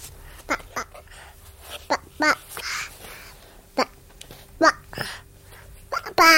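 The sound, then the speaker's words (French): A South American bird chatters in short, babble-like bursts that sound like a baby's nonsense syllables, with squeaky chirps and brief breathy puffs spaced irregularly across a quiet background. “Non, ce n'est pas un enfant, mais bien un oiseau.”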